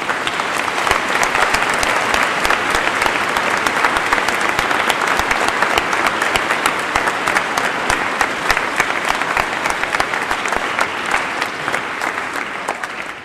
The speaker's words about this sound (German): Heute, jetzt dürfen Sie, Kommunionkinder, mal richtig klatschen.